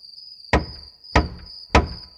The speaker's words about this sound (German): Sie sieht einen großen Baum. Oh, das ist ein Baumhaus. Sie klopft an die Tür.